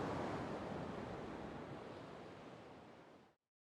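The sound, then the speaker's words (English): A steady, full roar of surf washes in as waves break on a beach, gradually easing over a few seconds before cutting off abruptly, with no voices. “So this seems like a fitting and wonderful place to salute them and to say goodbye.”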